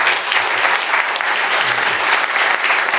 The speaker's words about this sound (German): Vor einer Woche gab es ein großartiges richtungsweisendes Urteil. Also bitte einen Applaus dafür. Bitte.